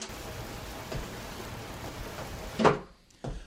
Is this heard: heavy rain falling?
yes